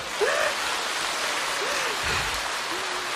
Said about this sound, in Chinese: 鼓掌